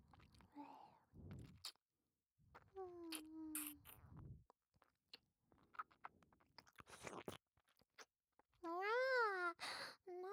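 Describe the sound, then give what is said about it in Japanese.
Wet licking and smacking mouth noises made by a voice imitating a cat licking its beloved master's face, broken up by breathy sighs and a couple of wavering, whiny vocal tones. “大好きなご主人様のお顔をいっぱいいっぱいペロペロなめなめしていいにゃ。”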